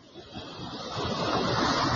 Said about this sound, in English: Can you hear the ocean?